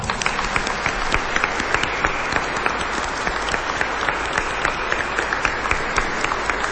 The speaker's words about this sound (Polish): Dlatego tych wszystkich, którzy są razem z nami, przywitajmy bardzo gorącymi oklaskami.